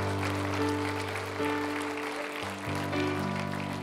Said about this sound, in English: If you believe that, give the Lord a big round of applause.